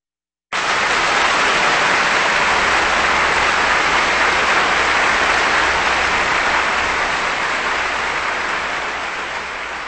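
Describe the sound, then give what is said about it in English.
Sustained concert applause from a large audience for the North German Radio Symphony Orchestra, conducted by Kurt Garben, and pianist Arturo B. Michelangeli after Mozart's Piano Concerto No. 15, a dense steady wash of clapping that starts abruptly and holds strong for several seconds before easing slightly, with no voices. “That applause for the North German Radio Symphony Orchestra, conducted by Kurt Garben, along with pianist Arturo B.”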